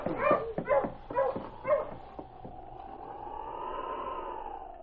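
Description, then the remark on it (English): Sled dogs, just cut loose from their harness and scattering, bark and yip in a quick, excited burst of about half a dozen sharp calls, then give way to a long, steady drawn-out whine that lingers to the end. “Pierre's dogs were cut loose from their harness and scattered”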